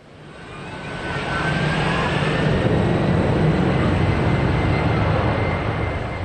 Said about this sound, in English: Passenger jets roar into the air at Frankfurt Airport, hurtling down the runway as they leave the city, which hosts the European Central Bank, and head to the other member states of the Euro.